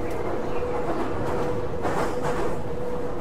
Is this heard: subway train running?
yes